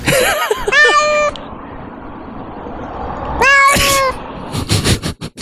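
A cat meows loudly, two drawn-out, wavering meows a few seconds apart over a steady background hiss, followed by a few short clattering sounds at the end.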